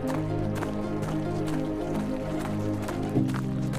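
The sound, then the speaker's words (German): Quick footsteps of a person crunch across fine gravel in a steady running rhythm, heard from afar and moving away, each step a short gritty scuff, set against a continuous humming background with no one talking. “Lauschen wir in die eine Richtung, hören wir die schnellen Schritte einer Person über feinen Kies.”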